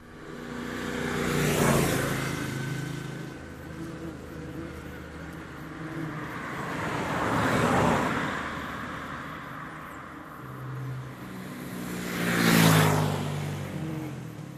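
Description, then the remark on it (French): Motorcycles in the valley below rev and drone far off in three rising-and-fading swells, each engine surging for a few seconds before receding, with a steady low rumble between them and no voices. “Autant les motos, même lorsqu'on est à 3000 mètres d'altitude, on entend les bruits de motos qui proviennent de la vallée.”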